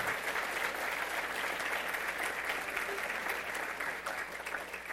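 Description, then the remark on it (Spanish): An audience clapping their hands as an offering of applause to the Lord, in a steady, dense wash of applause that holds at an even loudness for the full five seconds, with no voices standing out. “¿Qué les parece si le damos una ofrenda de palmas a nuestro Señor?”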